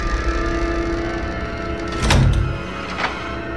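Over a steady low hum, a bedroom door swings shut with a soft, muffled thud, followed about a second later by a short, sharp latch click.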